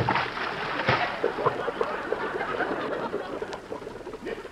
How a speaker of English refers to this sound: No, I'll dive in. Here I go. One, two, whee!